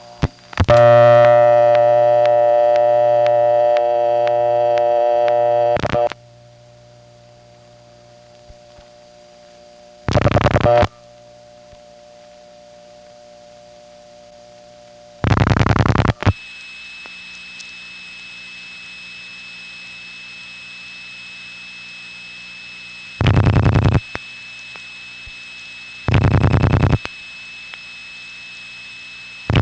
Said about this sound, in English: you can actually tell before the person has even answered just how long their phone line is by the way it sounds. This next call happens to go to a line that has double ring, but listen to how hummy the phone line is because of its length.